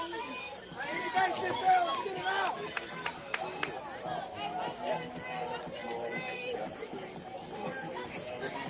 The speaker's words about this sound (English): that will erupt the Washington County crowd